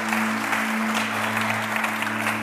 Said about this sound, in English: How many are happy to be in the house of God today? Come on, make some noise, clap your hands. Woo!